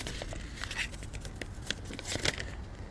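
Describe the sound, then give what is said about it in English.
Paper from a geocache crinkles and rustles as it is unfolded and handled, with scattered sharp crackles and soft shuffling over a steady low background hum. “Let's see what's on the paper.”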